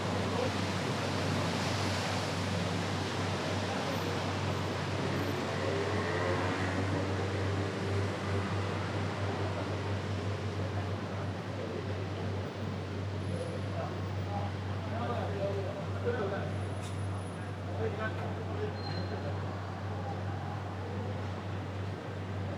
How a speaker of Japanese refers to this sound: 今まさに令和に切り替わった瞬間です。ゴールデンウィークということもあり、夜中にもかかわらず人々や車が行き交っています。